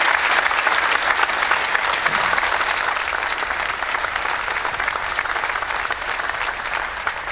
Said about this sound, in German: Erstmal kriegst du einen Applaus aus München. Schön, dass du da bist.